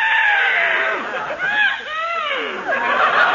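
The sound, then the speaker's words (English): A cute little horse whinnies loudly, a shrill, wavering neigh with rising and falling pitch that runs for about three seconds, with no talking over it. “There's that daffy guy's horse, Numbskull. Oh, what a cute little horse.”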